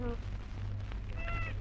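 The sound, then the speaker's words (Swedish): A toy doll's voice box cries out "mamma" when the doll is bent: a brief nasal, bleating tone at the start, then a longer wavering one near the end, over a steady low hum. “Ja, men vet du vad den säger, den dockan, om man böjer den?”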